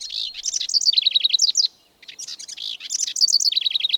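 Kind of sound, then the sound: bird, house wren song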